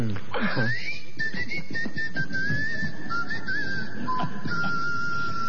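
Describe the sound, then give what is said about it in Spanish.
A person whistles a long, wavering high tone that glides and sustains, imitating wind passing through small holes in the Colossus of Memnon statue in Egypt, with low background murmur underneath. “Otros dicen que era el viento que pasaba por algunos agujeritos que el arquitecto había puesto con toda astucia, y el coloso de Memón chiflaba.”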